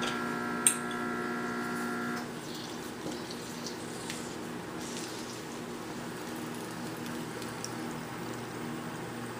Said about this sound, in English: Salt is perfect this time. So let's go ahead and splash our lime in it.